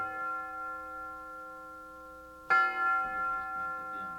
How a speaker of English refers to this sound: The University Tower chimes ring in another session of Ask the Professor, the radio program on which you match wits with the University of Detroit professors and their guests